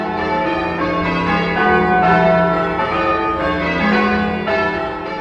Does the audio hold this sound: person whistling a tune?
no